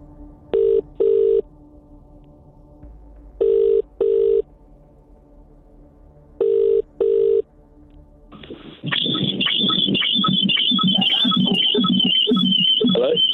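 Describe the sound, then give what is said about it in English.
A telephone rings during an outgoing phone call, three times in the classic double-pulse pattern, evenly spaced with quiet gaps between, then a loud, dense stretch of sound abruptly takes over. “Is it ringing?”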